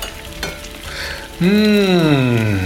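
Chopped green beans, carrot and peas sizzle steadily as they are sautéed in the bottom of a pot, then a loud scraping squeal rings out partway through as they are stirred, its pitch sliding gradually downward over the continuous frying hiss.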